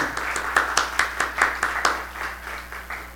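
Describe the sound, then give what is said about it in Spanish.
A church audience applauds itself, many hands clapping in a quick, fairly steady rhythm that gradually blurs into a softer, fading patter. No one speaks over it. “Yeah, give yourselves an applause.”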